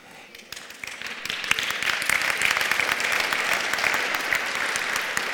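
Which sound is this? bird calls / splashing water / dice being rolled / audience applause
audience applause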